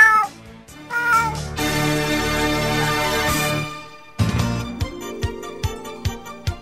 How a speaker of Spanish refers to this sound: Un gato caminaba por un tejado maullando. ¡Miau! ¡Miau!